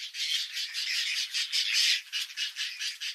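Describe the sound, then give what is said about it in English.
Harsh, rasping whiskered tern calls overlap continuously in a noisy chorus of squawks, with several birds calling at once and no pause throughout. “Male whiskered terns gather food for their mates, but things don't always go as planned.”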